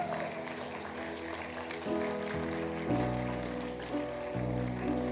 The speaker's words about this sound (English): Come on, give the Lord a hand clap of praise tonight.